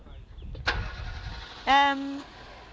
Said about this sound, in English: I can't hear for Dorothy's car.